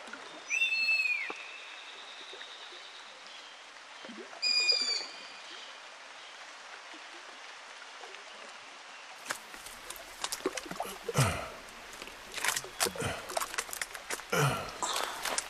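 Steady flowing water murmurs along the bank of the Jeyhun River while birds call twice with high whistling notes early on, then louder splashing and rustling bursts take over in the second half.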